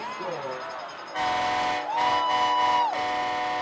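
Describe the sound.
A loud train horn blares in two long, sustained blasts, the second one longer, following a brief moment of voice at the start. It sounds from the visitors section at a football game between the Allen Eagles and the Hebron Hawks, signalling that the Hebron Hawks have scored.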